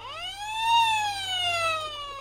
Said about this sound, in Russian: до чего вы нам с вашей сигнализацией надоели, чтоб была тишина и порядочек.